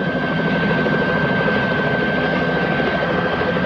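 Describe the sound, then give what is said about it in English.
A helicopter roars steadily as it crests a desert dune and comes upon a plane. Its dense engine and rotor noise holds at a constant, loud level throughout, with a thin whine riding on top and no voices. “The helicopter crests a dune and comes upon the plane.”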